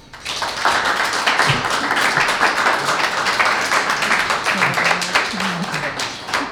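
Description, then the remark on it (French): An audience at an event at the Pôle Sud socio-cultural centre applauds the evening's guests steadily for several seconds, a dense wash of many hands clapping at once, with a few faint voices rising briefly beneath it. “On peut les applaudir.”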